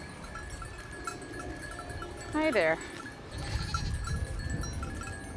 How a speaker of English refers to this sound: Here, too, there's just an empty lot. There is not a whole lot going on here. there's four goats grazing. That's the bells you hear tinkling as they're walking by in the grass.